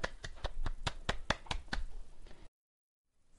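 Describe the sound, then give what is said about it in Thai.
Hand clapping, about nine or ten sharp claps in an irregular rhythm, fairly loud with no talking, breaking off abruptly into silence after a couple of seconds, in celebration of saying the slogan, show name and host introduction in a single take. “คุณผู้ฟังปรบมือเราปรบมือทำไมเพราะว่าเมื่อกี้นี้เราสามารถพูดสโลแกนพูดชื่อรายการพูดผู้ดำเนินรายการได้เสร็จสมบูรณ์ภายในครั้งเดียวปรบมืออีกรอบ”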